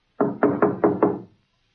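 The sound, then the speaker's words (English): Five firm knocks on the wooden door of a caretaker's cottage in a quick, even rhythm, clear, with a short resonant decay after the last rap and no voices. “After just a moment of hesitation, Harry knocked.”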